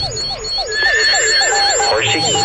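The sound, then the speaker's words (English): A horse whinnies in a quick run of falling, warbling cries that repeat steadily, fairly loud, with thin sustained electronic tones sounding faintly alongside. “Horsey up here in the moon? Moon horse.”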